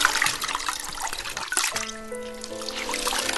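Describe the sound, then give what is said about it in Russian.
Water pours and trickles steadily, a splashing stream that shifts into a rising, hollow fill as a vessel takes on water for washing. No voices are heard. “Умойся, вот вода.”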